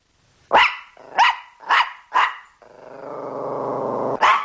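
A dog barks four times in a quick, evenly spaced run, then lets out a long, rumbling growl before one more bark. Loud, with no talking.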